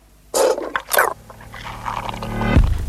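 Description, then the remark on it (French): A sound effect from the 1986 film in which Jeff Goldblum transforms into a fly, depicting a fly regurgitating digestive juice: two harsh, wet retching bursts, then a rising gurgling, rasping rumble ending in a low, sliding groan. “Christophe Daugeron, assez fidèle à la réalité, ce qu'on entend là. C'est le phénomène de régurgitation.”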